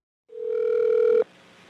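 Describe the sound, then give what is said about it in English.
A steady, clear telephone dial tone on a phone line tapped by police hums for about a second, then cuts off abruptly, leaving only a faint low line hiss. No one speaks. “So they decided to tap Marcia Johnson's phone.”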